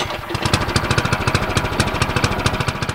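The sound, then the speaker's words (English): A John Deere tractor engine on a farm in Benkelman, Nebraska, runs steadily, its rapid chugging pulses thumping in an even rhythm with a rattly, knocking edge. No voices. “from even spraying pesticides pumped from tanks towed behind his John Deere tractor.”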